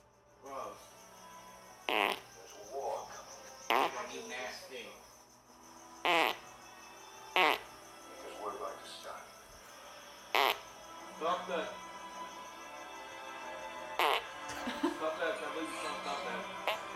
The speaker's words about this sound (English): The number of farts is impressive that he's able to squeeze out in one session.